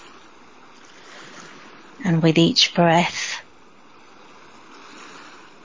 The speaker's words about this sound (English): You can feel the warmth of the sun against your skin. Hear the waves.